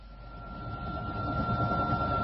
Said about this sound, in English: Now, we really must pop in the helicopter and be on our way.